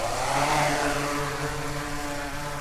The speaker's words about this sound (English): The drone shoots skyward, flying at about 160 feet. It's preloaded with a flight path by the UConn team.